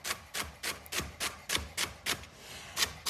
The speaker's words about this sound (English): And we want pretty small pieces here. We have two celery stalks. Okay, so you want to just run your knife through it so that it's pretty small.